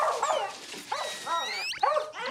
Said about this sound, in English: It's fucking squeaking! Man, you never heard a dog squeaking for you? That goddamn dog.